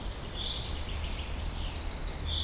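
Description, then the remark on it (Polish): A wood warbler's song rings out in a forest: a quickening series of thin, high notes that runs into a long shivering trill, faint over a low rumble of background noise. “I to jest świstunka? Mhm.”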